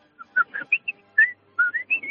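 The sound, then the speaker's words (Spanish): A person whistles an imitation of the message alert tone of his wife's phone: a quick run of short, bright tonal notes, about ten chirps in two rising bursts, clear and fairly loud with no talking. “Pero luego después, el ruido de mensaje del teléfono de mi mujer es el típico Weasley. Que es, sí. A ver si me sale.”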